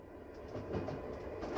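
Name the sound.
train riding on rails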